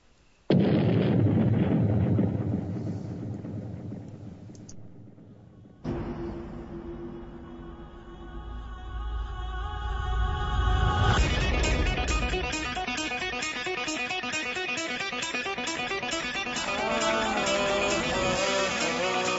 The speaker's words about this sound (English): I found something, a little anthem for the firefighter. And this is, I'd like to play it now